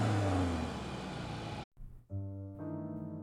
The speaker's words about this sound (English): I peer out to see him opening the abandoned car, making a noise of triumph as he successfully puts the keys into the ignition and revs the engine.